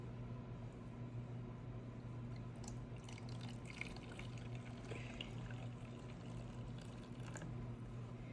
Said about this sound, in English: Okay, so I'm about to put my menthol in here because this is menthol water with peppermint in it. So we gonna pour, and it give you to the max. So let's go ahead and pour.